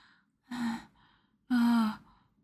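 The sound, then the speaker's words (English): Two heavy, breathy gasps, each about half a second long with a faint voiced edge, separated by a short pause. The second breath is louder and longer. Nobody speaks. “You're really spent. Panting as you fill me with cum.”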